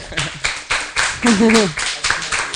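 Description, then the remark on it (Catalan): A short burst of applause for a 15-year-old student after he performs a song, steady clapping from several people with a brief cheering voice rising over it midway. “Un aplaudiment, no?”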